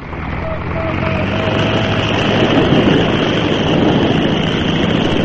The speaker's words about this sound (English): For the first time in history, man rose from the water in a heavier-than-air craft when Glenn H. Curtis took off from the Pacific Ocean, circled over Southern California, and settled back onto the sea.